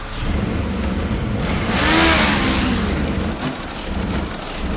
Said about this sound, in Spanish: Sí, parece que están acelerando los autos para una competencia. Parece que ya están listos. Los competidores preparan los autos al acelerar los motores, es decir, al hacer cambios de velocidad por unidad de tiempo.